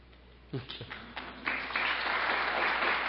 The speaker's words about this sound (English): It's okay. You don't need to clap.